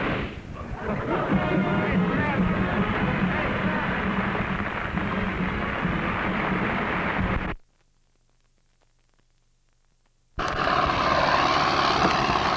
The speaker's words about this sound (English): 29th of May is Sunday, going along the Theodosian walls. Tractor here clearing some debris, pushing it down into the moat, it looks like.